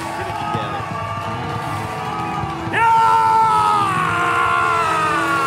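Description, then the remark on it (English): A preacher shouts and screams intensely while holding a handkerchief above his head to bless it, over a noisy, echoing crowd, rising sharply midway into a loud, sustained yell with strained, wavering pitch. “Held it in his hand above his head and he's screaming.”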